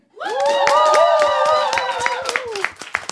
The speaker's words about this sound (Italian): Allora facciamo un applauso agli assenti. È un po' debole però l'applauso. Ho capito, sono assenti, li applaudiamo meno? No, dai.